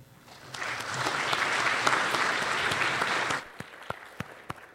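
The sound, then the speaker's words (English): An audience at a works-in-progress session breaks into steady applause that swells, holds for about three seconds, then stops abruptly, leaving a few scattered final claps. “Let's just do one more round of applause.”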